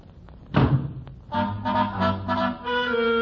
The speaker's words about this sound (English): With that, he bangs the door and leaves.